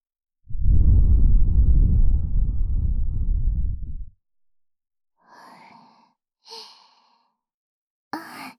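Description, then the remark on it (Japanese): A long, steady breath exhaled into the ear, lasting several seconds, followed by a few faint, brief breathy puffs after a short pause. “耳元へ吐息を。”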